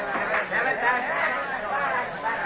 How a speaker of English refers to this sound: It's a little later at the third base field boxes of the jammed ballpark. A typical New York Sunday crowd is watching fielding practice.